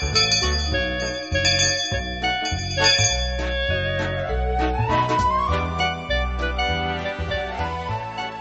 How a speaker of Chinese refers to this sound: 每一次在这里听到铃声呢，非常非常的开心，因为我知道又可以上课了，又可以在这里学习了。